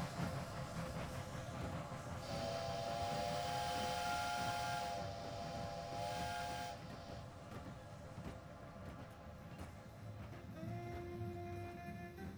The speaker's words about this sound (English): As the train bears down upon him, it seems to become smaller. When it finally reaches him, it's a toy train that runs between his legs.